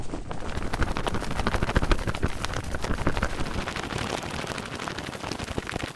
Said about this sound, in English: Her wings, by the way, are it's a shirt. It's a cotton polyester blend shirt being flapped around like crazy and sped up a bit.